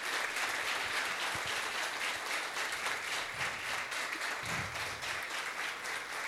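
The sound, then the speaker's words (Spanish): Sustained audience applause for the outgoing town councillors, a dense steady wash of many hands clapping at an even loudness throughout, with no talking over it. “Bueno, primero muchas gracias por estar acá presente acompañando a los concejales salientes que merecen también un aplauso por la tarea que han realizado.”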